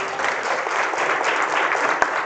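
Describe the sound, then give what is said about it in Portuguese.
A church audience claps for God during a sermon, a steady, dense, even wash of applause holding at a fairly loud level throughout, with one slightly sharper clap standing out near the end. “Dê um aplauso a Ele por isso.”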